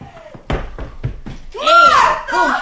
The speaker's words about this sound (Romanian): Umblă cineva la ușă. Nu poate fi decât Marta. Altcineva n-are cheie.